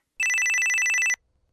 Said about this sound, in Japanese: あ、電話だ。